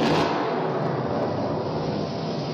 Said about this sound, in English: Listen to the falling rain. Rain here? Yes, but nothing as dramatic as a thunder shower.